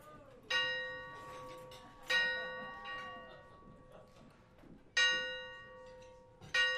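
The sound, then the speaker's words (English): A bell weighing about 400 pounds, brought on stage and struck during a live band performance, tolls slowly: four deep resonant strikes spaced a couple of seconds apart, each ringing out and fading before the next, clear. “Man, you don't hear no church bells ringing 12 o'clock in the daytime.”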